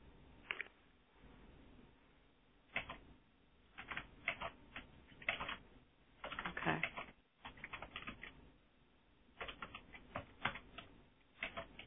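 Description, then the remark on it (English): Rapid, uneven clicking of computer keys, bursts of keystrokes with short pauses, clear with no voices present, as someone types a response to a question in a box. “is typing in the box a response to Giselle's question as we're doing this as well”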